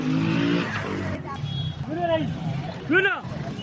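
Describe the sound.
Motor engines hum and rev amid the busy banana market in Bamako, commonly called Namasadanka, their pitch swelling and falling in a couple of arcing bursts while a steady mix of voices bargaining and calling out to potential buyers chatters throughout.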